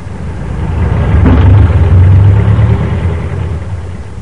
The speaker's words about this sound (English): This evening we find them in the store, Ebb kneeling on the floor painting a sign, and Zeb leaning against the door jamb watching traffic flow past.